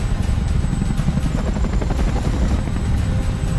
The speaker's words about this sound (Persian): قربان، هلیکوپتر داره فرود میاد. الان کجاست؟ تو حومه شهر نزدیک گوادالهارا. فکر کنم یه گاوداریه. هلیکوپتر داره فرود میاد.